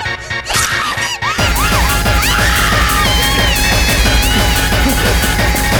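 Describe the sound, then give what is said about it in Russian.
Shrill, wavering screams rise and fall over a loud, dense wall of noise that fills the whole clip, with the voice gliding up and down in pitch. “Интересно, какими криками ты меня еще порадуешь”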